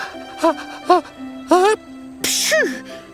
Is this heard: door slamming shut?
no